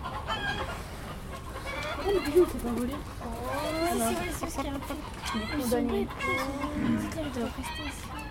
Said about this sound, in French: T'as vu notre poulailler ? Oh, on a 5 poules de différentes nationalités.